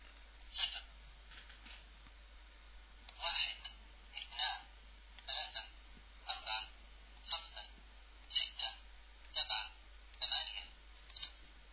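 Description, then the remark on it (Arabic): A printing calculator with standard keys runs off a series of short, rattling mechanical print bursts, about a dozen in a fairly steady rhythm, each a dry buzzing clatter with brief pauses between lines. “تعالوا نتعرف على هذه الآلة الحاسبة، وطبعا مفاتيحها هي مفاتيح قياسية، والعمليات اللي عليها عمليات قياسية. نبدأ بالطباعة.”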